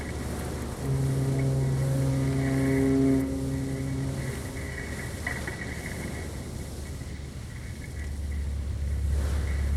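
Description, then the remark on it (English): A heavy old bus engine, in an old bus of the larger police-van type, runs steadily with a low rumble and a strong droning hum that rises briefly early on, then settles into rough, rattling idling. “In einem alten Bus, von der Art eines größeren Polizeiwagens.”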